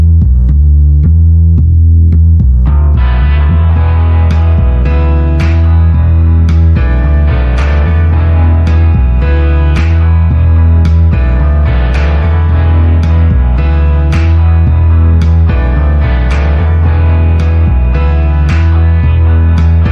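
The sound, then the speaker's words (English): Bray Wyatt's WWE entrance theme plays on its own: loud and droning, with heavy sustained low tones and a throbbing hum under repeated rhythmic hits, holding steady throughout with no voices. “Tones of the Bray Wyatt theme.”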